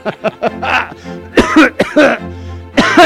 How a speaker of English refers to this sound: Marie looked at Gawain, who shrugged back innocently as Paul's mirth cascaded into severe coughs. Dear fellow, don't hurt yourself. Shaking his head and holding up a hand, Paul hacked a few more times, tears running down his face,